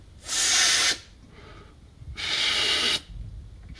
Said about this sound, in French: Continuez, monsieur l'abbé, continuez, comme ceci. Toujours avec le ventre. Il s'agit de maîtriser ce qu'on appelle le souffle rythmé. Allez-y.